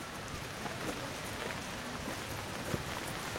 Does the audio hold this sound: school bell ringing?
no